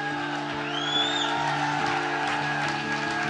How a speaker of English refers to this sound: Let's give the Lord a big clap and a shout. Come on.